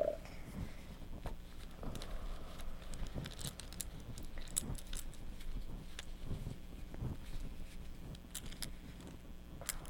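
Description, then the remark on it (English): Keys jingle and clink in an irregular, continuous flurry of small metallic taps, fairly soft, as a mother cleans the keys, with no one speaking. “Mommy is going to clean the keys.”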